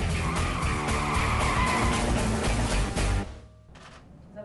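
A loud screech of car brakes and skidding tires rips through for about three seconds, then cuts off abruptly into a faint, quieter tail. No one speaks.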